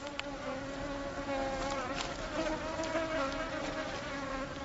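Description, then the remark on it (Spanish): A steady, droning insect whine of several mosquitoes buzzing at the Waw an Namus crater oasis, sustained and overlapping for the whole stretch with slight wavering pitch, no voices present. “Con algunos efectos secundarios desagradables a veces, Wauwan Namus significa literalmente oasis de los mosquitos.”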